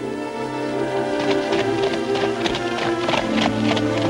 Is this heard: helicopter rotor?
no